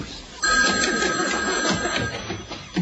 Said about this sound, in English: The telephone's ringing at 7:59 exactly.